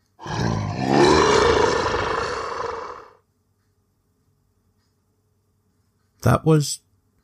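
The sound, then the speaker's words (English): A loud, rasping roar lasting about three seconds, apparently voiced by a person imitating a beast, followed by a few seconds of silence and then a short vocal burst. “Then a terrifying roar fills the night.”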